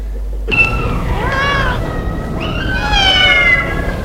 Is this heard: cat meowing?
yes